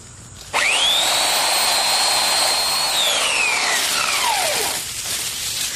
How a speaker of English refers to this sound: Of the McCullough MS-1430 electric chainsaw.